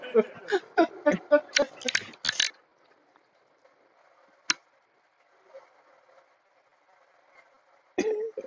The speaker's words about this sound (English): Let me clear my throat.